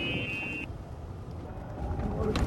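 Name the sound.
golf cart driving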